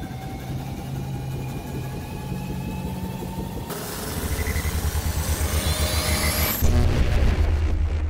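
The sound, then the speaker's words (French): A sci-fi time machine departure effect: a low mechanical hum with rising whines swells abruptly into a loud roaring rush, climbs in pitch, then shifts to a deep pulsing drone. “Excellente idée, embarquons dans notre machine à voyager dans le temps.”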